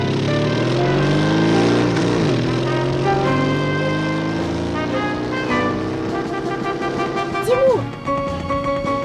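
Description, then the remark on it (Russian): A motorcycle engine runs steadily, its droning, harmonic hum shifting in pitch as it revs, with a brief rising whine near the end. “Мне нужен мотоцикл.”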